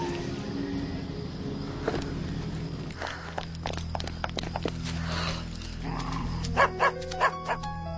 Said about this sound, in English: It's the manager's dog. The trailer park.